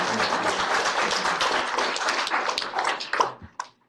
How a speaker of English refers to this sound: And thank you all for your applause. You're fantastic. Thank you.